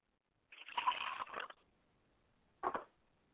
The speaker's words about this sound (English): I like to pour libation to my mother spirit, Yamanja, representing my mother, Clara Jenkins Ashe.